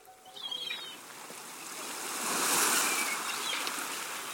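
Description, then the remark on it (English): Seaside ambience: a steady wash of surf swells into a breaking wave midway, while thin bird calls chirp faintly above it near the start and again toward the end. “If that sound conjures up the seaside world of distant horizons and wide beaches, then you're probably dreaming of getting away from it all.”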